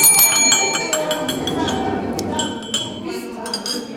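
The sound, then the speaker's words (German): A small hand bell rings in quick, repeated shakes, bright and metallic, the clanging continuing for several seconds over a murmur of people chatting at a storytelling café gathering. “Wo ist deine Glocke? Hallo, meine Glocke hier.”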